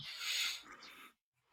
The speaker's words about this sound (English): You hear a weird chirping sound. It's my cat upset at birds.